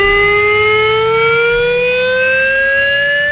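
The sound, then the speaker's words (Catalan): A civil defense siren wails steadily on its own, a loud sustained tone with stacked harmonics slowly rising in pitch, with no voices. It sounds for a chemical risk drill by Civil Protection, one of 52 sirens in Terres de l'Ebre and Tarragona. “Començarà a les 12 del migdia, durarà un quart d'hora i sonaran les 52 sirenes que hi ha a les Terres de l'Ebre i Tarragona.”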